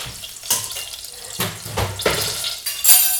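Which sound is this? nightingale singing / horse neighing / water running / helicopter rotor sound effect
water running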